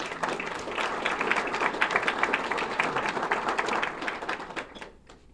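crowd, audience clapping

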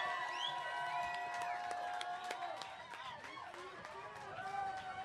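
crowd, crowd cheering

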